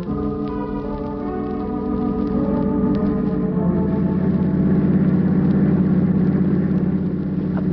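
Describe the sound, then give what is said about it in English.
The engine of a parked car is kept running, giving a steady, low, droning hum that grows slightly louder after a couple of seconds as its pitch shifts, then settles into a constant idle-like rumble. “Keep the motor running.”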